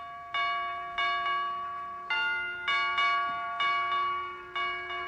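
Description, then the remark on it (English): A door chime, pressed by Dr. Gamble, rings out a slow, solemn funeral-march tune, around eight clear bell-like tones struck in an uneven rhythm, each one ringing on and fading. No one speaks. “Boy, what a sensitive door chime.”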